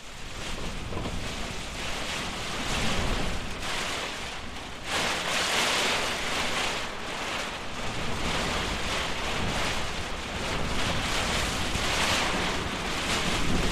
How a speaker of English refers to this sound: but not until we had waited out a severe storm, which made us very glad to be in a warm, dry hut. And we just hoped that the newly fledged rock wren family we'd met had found a good place to shelter from the rain.